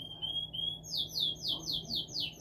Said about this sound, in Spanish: No sé quién compraría un canario para que estuviera chillando todo el pinche día.